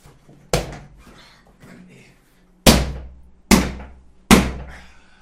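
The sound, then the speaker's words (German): A fist pounds a chair four times with loud, heavy thumps. The first blow stands alone, then three more follow in quicker, uneven succession, each decaying briefly. “Ich schlag jetzt wieder meinen Stuhl.”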